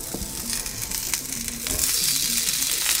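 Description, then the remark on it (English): Food sizzles steadily in a hot cast iron skillet, a dense crackling hiss with scattered sharper pops, growing slightly louder partway through and continuing without any voices. “That cast iron skillet is exactly where you want to be. So I'm gonna, oh yeah, you hear that sizzle?”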